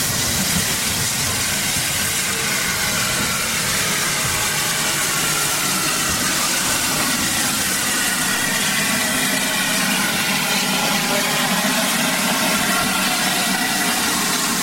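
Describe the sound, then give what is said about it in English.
A Victorian London South Western Railway steam locomotive, number 563, built at Nine Elms Works in 1893, runs back from the water column to attach to the front of a visiting locomotive at Swanage. A continuous loud hiss of steam over a low mechanical rumble holds steady throughout, with no voices. “So let's listen to 563 coming back, this beautiful London South Western Railway Victorian locomotive at the heart of this Victorian weekend.”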